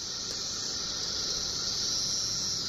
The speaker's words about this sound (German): Das ist jetzt ein Baum, auf dem Tausende von diesen Zikaden sitzen. Ein riesiger Schwall von Singzikaden veranstaltet ein Konzert auf einem Baum. Dieses Musikspektakel findet alle 17 Jahre im Mai oder Juni statt.